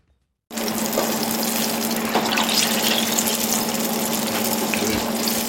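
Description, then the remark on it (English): Eggplant strips sizzle as they deep-fry in hot oil at Li Ho Fook, a modern Chinese restaurant in Melbourne: a dense, steady hiss peppered with tiny crackles over a faint low hum, starting abruptly after a brief silence with no voices. “The eggplant strips are sizzling in oil at Li Ho Fook, a modern Chinese restaurant in Melbourne.”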